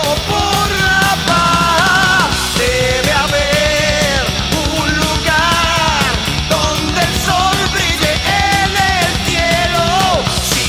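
A loud heavy metal song plays throughout, with powerful sung vocals soaring over dense distorted guitars and pounding drums, filling the whole stretch without pause.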